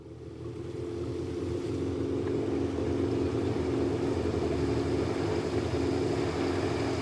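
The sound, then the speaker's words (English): A motorboat engine drones steadily, rising from quiet over the first second to a loud, continuous rumble with a throbbing low hum. No voices. “Gosh, smashing looking boat.”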